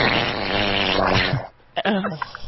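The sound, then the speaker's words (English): A wet, sputtering diarrhea fart sound effect, loud, a buzzy, bubbling blast for about a second and a half, followed by a short pause and a brief trailing squelch. “That's a diarrhea fart, girl.”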